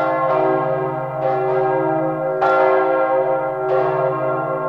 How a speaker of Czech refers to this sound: Pražský hrad nemá pouze krásnou tvář, ale má i svůj hlas. Není jim takřka babylonská změť hlasů turistů všech zemí ani pravidelné klapání bod hradní stráže. Pražský hrad promlouvá zvony z katedrály svatého Víta, Václava a Vojtěcha.